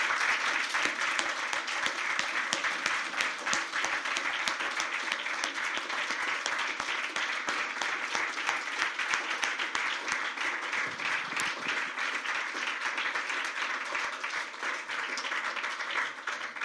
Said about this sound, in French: Et puis peut-être qu'on se lève tous maintenant, puis qu'on applaudit, peut-être qu'on va s'applaudir, mais on applaudit tout le monde pour ce travail.